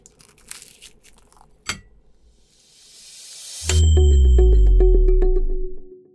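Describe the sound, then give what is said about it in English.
A crunchy bite of food, with a few crisp crackles and one sharp snap, followed by a rising whoosh that gives way to loud, sustained music. “Okay, one more bite and I'm out the door.”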